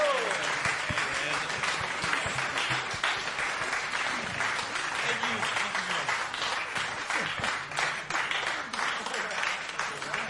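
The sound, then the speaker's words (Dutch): An audience applauds steadily for about ten seconds for the band a band after a live jazz set at the Brinkhuis, a dense, even wash of many hands clapping with faint voices mixed underneath. “Nog één keer een applaus voor deze band.”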